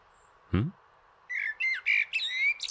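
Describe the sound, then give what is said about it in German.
A common blackbird sings a run of varied, fluting phrases, clear, after a single sharp low-to-high chuck call; no voices accompany it. “Ja, das war die Amsel.”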